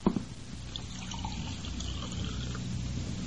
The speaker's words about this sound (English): Pour me a glass of water from that carafe so I can bring him to.